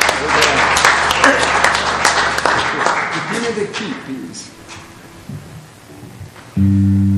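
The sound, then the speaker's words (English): A church audience claps for Jesus and cheers together in a loud, dense burst of applause that gradually thins and fades, with voices mixed in, before a low sustained tone enters at the end. “If you clap your hand for Jesus, I want to hear something more.”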